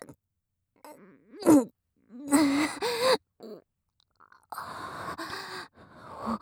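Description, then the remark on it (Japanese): A person yawns aloud, with drawn-out breathy, groaning exhales and short gasps in a few bursts separated by pauses. The sounds are fairly loud, with no speech. “ごめんなさい、あくびします。”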